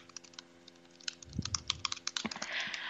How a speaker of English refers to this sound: Sorry, I was typing a message.